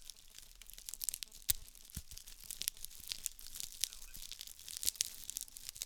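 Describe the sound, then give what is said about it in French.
A straw broom is rustled and crushed in front of a microphone in a studio to mimic the sound of a small fire, giving a dense, continuous crackle of sharp, bright snaps and pops with a few louder cracks scattered through. “Et pour ça, je vais prendre un balai en paille que je vais manipuler devant mon micro. Voilà. Et si vous écoutez, ça va crépiter.”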